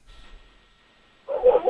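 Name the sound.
small dog barking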